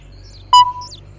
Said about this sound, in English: Listen, what is it? Baby birds.